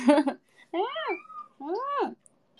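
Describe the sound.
A cat named Chii-chan meows loudly twice in a row, each call long and drawn out, rising then falling in pitch. A brief burst of voice comes just before the first meow.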